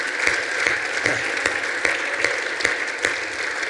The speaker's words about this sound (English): And I just want to give our online audience a round of applause this morning. How about that, church?